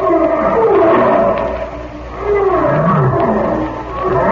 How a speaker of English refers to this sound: You know, that lion has sort of a human sound.